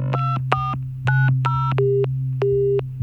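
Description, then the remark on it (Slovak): Electronic phone-line tones signal that a brother's phone, being called, can't be reached: four short beeping bursts, then two longer, steady lower tones, all over a constant low hum. “Mal nedostupný telefón a na správy neodpovedal.”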